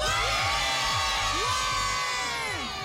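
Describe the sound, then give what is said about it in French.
A loud crowd in the village of Servion, canton of Vaud, opposite the Collège des Goyes, cheers and shouts continuously in the early morning to celebrate it as the canton's best village, with high-pitched whoops and screams rising over a dense, steady roar of many voices. “Vous qui avez voté pour ce village sur rouge.ch, faites du bruit à Servion avec nous.”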